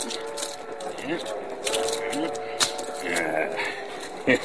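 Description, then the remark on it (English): Keys jangle as a pair of handcuffs is unlocked, with light metallic rattling and a few sharp clicks, the loudest near the end, over a steady low background hum. “Let me get my keys.”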